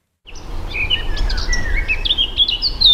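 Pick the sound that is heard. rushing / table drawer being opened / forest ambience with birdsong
forest ambience with birdsong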